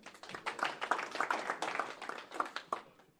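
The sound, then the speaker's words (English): A small audience claps together for a few seconds for a first-place trophy from the 1973 Oswego High School JV wrestling tournament: a dense, steady patter of overlapping hand claps, moderately loud, fading out at the end. “You're applauding a first place JV tournament trophy?”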